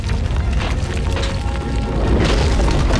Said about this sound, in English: As the avalanche of logs tumbles towards them, Chris grabs Ferris and pulls her to the ground.